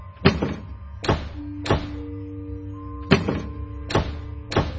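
An unlatched wooden screen door is pushed open a little by the night breeze and pulled back by its spring. It raps shut over and over in a repeating pattern: one sharp, loud knock followed by two softer ones, then the sequence starts again, with a steady low hum underneath.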